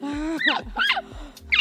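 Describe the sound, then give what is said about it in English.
A voice imitates a pet toucan with three croaky, rising squawks in quick succession, fairly loud, preceded by a brief nasal hum. “He's just right for a toucan. I didn't mean to insult your pet.”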